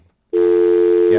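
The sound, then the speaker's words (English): A steady, loud telephone dial tone from a handset starts abruptly after a brief quiet moment and holds continuously, a sustained hum with a faint voice barely audible at the start. “the phone is working.”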